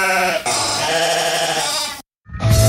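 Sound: sheep bleating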